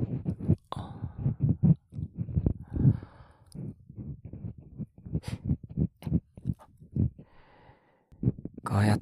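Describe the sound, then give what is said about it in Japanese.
Ear cleaning with an ear pick: intimate scratching and scraping deep inside the ear, a steady run of soft rubbing strokes with occasional crisp clicks, fairly loud and continuous with brief pauses, along with faint breathy sounds. “奥の方をカリカリってされると心地いいね。音も感触も全部気持ちいいよね。”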